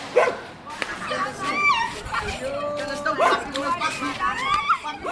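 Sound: stray dogs barking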